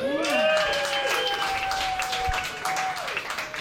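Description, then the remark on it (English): An audience at a stand-up comedy set applauds steadily for a few seconds, a dense wash of clapping with some sustained cheers or whoops riding over it before it begins to thin out. “Your polite applause feels just as good as getting drunk used to.”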